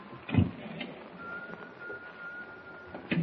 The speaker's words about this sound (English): We've got to find out who that whistler is, that's all. Got to prove it isn't the spirit of a whistling seaman who was washed overboard years ago, like Teak Barnaby says. Yeah. I got to pull myself together and follow that whistle.